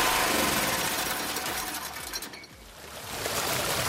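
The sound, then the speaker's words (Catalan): A small generator engine runs steadily, its loud, buzzy drone carrying a fast mechanical chatter, dipping briefly in the middle before returning to full strength; it powers household appliances such as a kitchen robot and a washing machine. “I si no, donem el motor i bueno, va un robot, va tot una mica, va una rentadora, va tot, però gastem molt, eh?”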